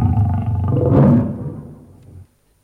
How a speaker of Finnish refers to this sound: Leijonat. Ne lähenevät. Kolmelta suunnalta. Pehmeät tassut tallaavat savannin keltaista ruohoa. Kuivia korsia.